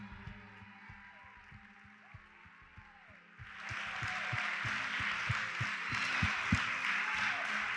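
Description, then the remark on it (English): A crowd breaks into applause, starting as scattered claps and swelling halfway through into a dense, steady wash of hand clapping, with some low thumps and murmuring underneath. “Cheers and leader, a big hand clap.”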